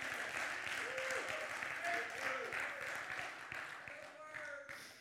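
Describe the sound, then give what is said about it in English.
A church audience at a morning service bursts into sustained applause as a hand clap of praise to God, many hands clapping densely and steadily, fairly loud, with a few voices calling out over it before it gradually tapers toward the end. “Let's give God a hand clap of praise this morning.”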